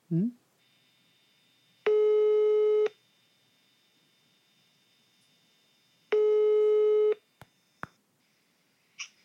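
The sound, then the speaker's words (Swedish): An outgoing call's ringing tone: two steady, buzzy one-second beeps separated by a few seconds of quiet, followed by a couple of faint clicks on the line. “Vi ringer honom. Vi bara ringa honom.”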